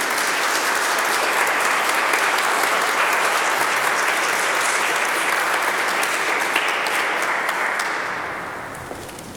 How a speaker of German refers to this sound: Wir danken dir ganz herzlich. Sie dürfen klatschen.